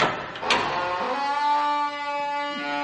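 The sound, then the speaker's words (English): A door is opened for a visitor, Inspector Copper: it clicks open with a sharp latch sound, followed by a long, steady, tonal creak that holds its pitch for about two seconds; no one speaks. “Excuse me, there's someone at the door. Come in.”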